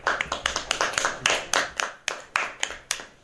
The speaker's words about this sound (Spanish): Un aplauso para todos vosotros.